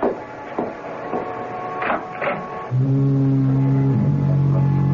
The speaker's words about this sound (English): The weather's changing. I can scarcely see the beam of the lighthouse. It's getting all misty. And don't be frightened if you hear the foghorn.